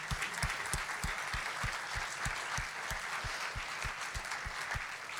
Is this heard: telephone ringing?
no